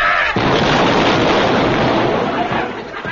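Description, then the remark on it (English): A naval gunfire sound effect bursts in abruptly and keeps up a loud, dense, rumbling roar for several seconds, continuous, with no voices. “The brass bedstead was sung by naval gunfire and Eccles went down with his mattress.”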